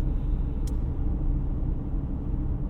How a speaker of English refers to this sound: Some great sounds, but it was so wet I didn't want to plug in these binaural microphones that I'm using now, and you can probably mostly hear car and a bit of my voice in the car.